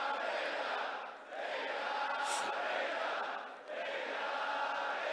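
A large crowd shouts together in unison while calling out their prayer requests, a loud, sustained roar of many voices that briefly dips twice between drawn-out chanted phrases.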